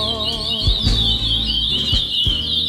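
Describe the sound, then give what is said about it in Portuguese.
A dense, continuous chorus of many caged songbirds, brought in by people carrying cages, trilling and chirping at once inside a gymnasium, filling the space with overlapping high-pitched song above a low rumble and a few soft thumps. “tá ouvindo essa sinfonia de passarinhos vindo do ginásio?”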